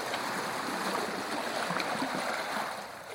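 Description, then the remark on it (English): A steady rush and hiss of water streaming past the hull of a sailing boat as it moves along in a good sailing breeze on a fair, bright morning, with a soft splashing texture and no voices. “So off we go, cutting through the water, with therapeutic sounds almost like waves on the shore.”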